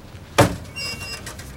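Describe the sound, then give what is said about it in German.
The wooden door of a large shed is carefully opened with a single sharp click or thud, followed by a faint, drawn-out creak and quiet rustling in a calm, still space. “Neugierig rannte er zum großen Schuppen und öffnete vorsichtig die Tür.”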